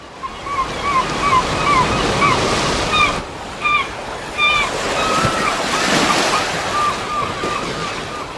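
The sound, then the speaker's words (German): North Sea waves wash steadily onto the shore in a continuous, fairly loud roar, with repeated short high-pitched bird calls chirping over the surf throughout. “dann mit dir zusammen ans Meer zu gehen.”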